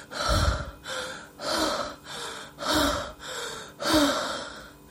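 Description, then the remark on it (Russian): A woman breathes convulsively at a trainer's command: heavy, gasping breaths repeat in a steady rhythm, about one per second, each a loud rush of air in and out, with no talking. “«Дыши», — вновь приказал он, и я начала судорожно дышать, пытаясь ему угодить.”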